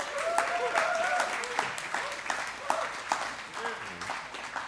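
An audience at a church service applauds steadily for a speaker called forward, a dense wash of many hands clapping, with a few cheers and raised voices rising over the continuous applause.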